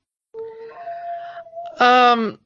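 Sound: dog barking and howling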